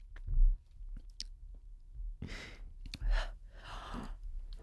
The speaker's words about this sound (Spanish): Qué desagradable, qué desagradable verla masticar sin masticar, como haciendo un ejercicio de prestidigitación bucal.